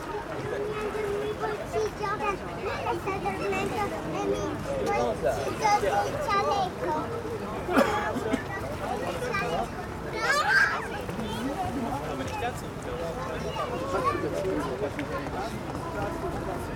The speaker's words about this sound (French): l'agitation désordonnée des enfants et le pas régulier des talons qui claquent. Les sons de la foule, emportés dans l'air, montant vers le ciel, épousent le graillement des corneilles, le zigzag d'une fauvette à foule.